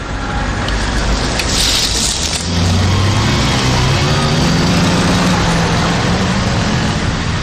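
Loud, continuous road traffic noise with a broad rumbling hiss, as a heavy vehicle engine drones low and steady from midway through; no one speaks.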